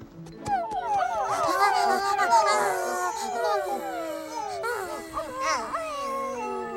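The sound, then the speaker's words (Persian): Several voices yip, whine and howl like dogs at once, a loud chorus of rising and falling barks and howls that carries on for several seconds. “زود بشید، همه خودتون رو برش لوس کنید. هاپ هاپ”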